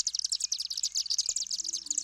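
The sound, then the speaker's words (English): Chimney swifts chatter in a rapid, continuous stream of high, thin chips and twitters, overlapping densely throughout, with a faint low hum underneath and no voices. “That enables the swifts to exit chimneys and cavities in trees where they nest.”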